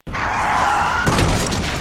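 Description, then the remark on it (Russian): A car's tires screech in a loud, sustained squeal for about a second, then a heavy car crash hits with crunching metal and shattering glass that rattles on briefly. “Опять авария, опять в мою машину.”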